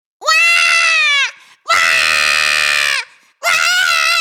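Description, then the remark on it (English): A baby screams in three loud, piercing bursts, each a sustained shrill wail with a short gasp between, with no other sounds or talking. “Babies scream.”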